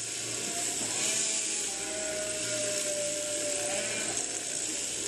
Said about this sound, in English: Okay, so Matthew, if we were to be really authentic, this is what sheep shearing sounds like. This was recorded at a farm in Derbyshire, England.